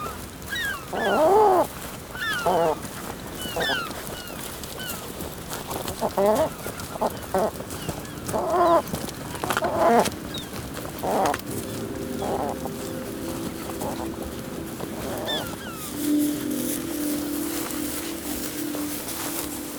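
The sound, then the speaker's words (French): A worried bird gives repeated loud, harsh distress calls in bursts while being handled by a person, with the person's voice and handling noises mixed in. “Là, il gueule parce qu'il est inquiet, quoi.”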